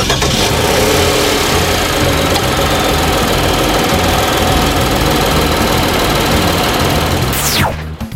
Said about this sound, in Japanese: それでは早速スタートボタンを押して今エンジンをかけました。